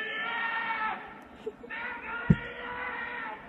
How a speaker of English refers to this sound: Listen. He's literally punching a giant, like, metal sign.